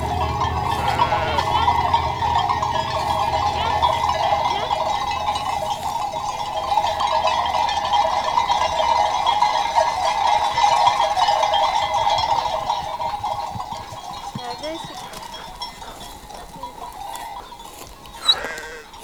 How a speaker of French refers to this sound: son chien qui guident et déterminent les déplacements des brebis. Écoutez ça.